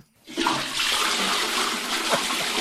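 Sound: toilet flushing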